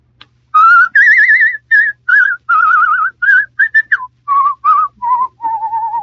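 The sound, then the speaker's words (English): A person whistles a lively tune, a string of clear warbling notes with vibrato, phrased in short bursts with brief pauses between them. “I'll whistle it for you instead.”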